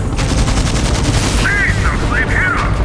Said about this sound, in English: It wasn't just the machine gun, the single shots of rifles as well.